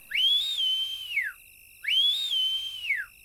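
A person whistles two long, clear calls, each sliding up, holding, then dropping away, with a short pause between them. The whistles are loud and close, with no other sounds.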